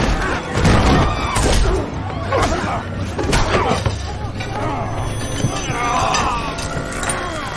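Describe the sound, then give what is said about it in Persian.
A drinking glass is dropped and shatters with a few sharp, broken crashes amid a noisy, busy scene, while voices talk and murmur throughout. “اون لیوانه رو بندازی همین الان.”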